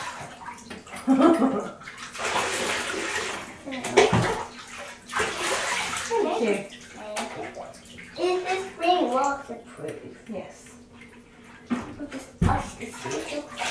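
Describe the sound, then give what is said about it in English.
Water splashes and sloshes in a bath with little water in it, with irregular bursts of movement, while a child's voice chatters and babbles over the watery noise throughout. “There's not a lot of water in this bath, is there?”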